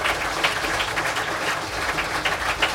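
Steady audience applause, a dense, even patter of many hands clapping at constant loudness for a few seconds, with no voices on top.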